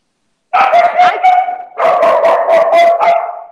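A dog barks excitedly in a rapid, continuous burst of yips and barks, loud, with a brief pause partway through before the barking resumes.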